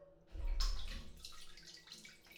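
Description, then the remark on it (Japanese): Hot water is poured over a person's head after a hair wash in the bath: a burst of water pours and splashes for about a second, then trails off into softer trickling and dripping. No one speaks. “今日はおしまいと言ってあなたの頭へお湯をかけた。”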